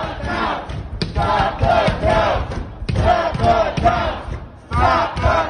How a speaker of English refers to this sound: But that didn't stop a group of protesters, many of them white Trump supporters, from gathering outside of a polling place in Detroit and banging on doors and windows to stop votes from being counted.